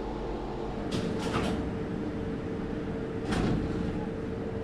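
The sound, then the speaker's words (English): The door of a small tram capsule arriving at the top of the Arch slides open with a couple of short rattling swooshes, then another about two seconds later, over a steady low mechanical hum. “I think we're here. Here's the door.”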